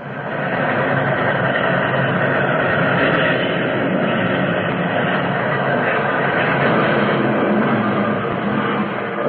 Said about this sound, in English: And then, unbelievably, it happened. I saw the rear cars as if they were toys, suddenly flung, hurtling off the tracks.